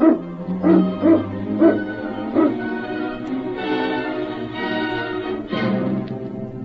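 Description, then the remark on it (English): A pack of sled dogs barks and yips excitedly as a man calls to get the dogs up, with a quick run of sharp barks giving way to a steady chorus of high, eager yelping and whining. “Get the dogs up, King.”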